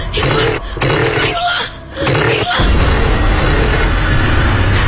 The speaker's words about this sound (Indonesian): Ya Tuhan, kenapa motorku tiba-tiba susah menyala? Ayolah. Ayo dong. Aku terus menyela motorku tanpa sekalipun melihat ke depan.